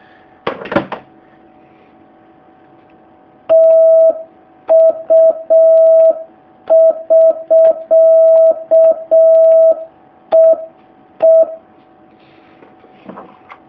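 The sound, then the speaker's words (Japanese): A steady Morse code tone sends the end-of-contact prosign TU (written VA), a short sequence di-di-di-dah-di-dah, a clean single-pitch beep keyed in clear rhythm, with faint clicks and noise before and after. “TU、トトトツートツ、終了、通信終了符号です。”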